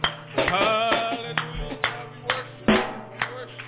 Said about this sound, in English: give the Lord a hand clap of praise in this place.